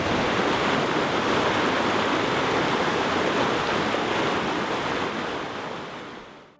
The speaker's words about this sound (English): Got rivered out. There is absolutely no way of safely crossing. Pissing rain and the trail disappeared into a river.